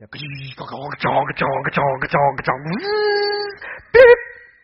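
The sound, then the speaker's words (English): A voice imitates a dial-up modem connecting: a run of choppy warbling beeps, a rising glide into a steady buzzing tone, then a sharp screechy burst near the end. “And I remember, you know, going, my parents had an extra line put in for the internet, for the modem.”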